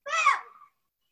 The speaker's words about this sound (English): Somehow I heard a peacock outside. I don't know what that was about.